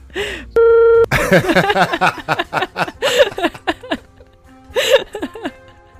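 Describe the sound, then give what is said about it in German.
A loud, steady electronic censor bleep lasts about half a second, a flat mid-pitched tone, cut in right after a brief bit of voice to bleep out a spoken name; lively talk with laughter follows. “Okay, würdest du mir den erzählen und ich piepst das nachher raus?”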